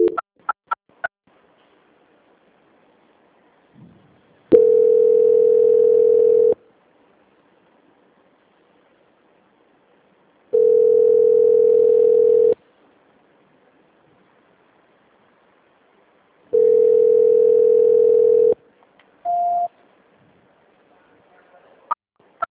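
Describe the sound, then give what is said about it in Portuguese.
A telephone ringing tone plays while a call is transferred to a quality department: three long, steady, mid-pitched tones evenly spaced by silence, followed by a brief higher beep. No one speaks. “Nesse momento, vou estar encaminhando a sua ligação para a central de qualidade, para prosseguirmos com as confirmações.”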